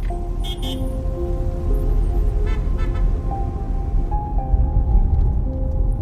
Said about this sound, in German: Und Sophia hupt manchmal kurz, um die vielen kleinen Autos und Motorroller zu begrüßen, die euch entgegenkommen.